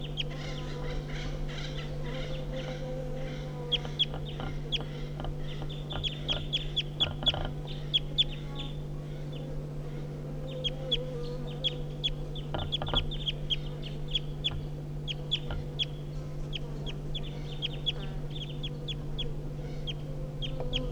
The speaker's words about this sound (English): So recording the wild birds giving flight calls now. It's 9 o'clock.